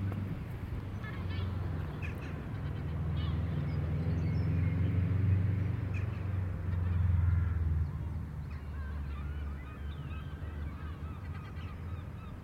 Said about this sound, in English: It's another wee flock of jackdaws.